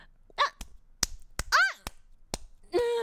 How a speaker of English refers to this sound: Get that away from me. Did you just slap me with that?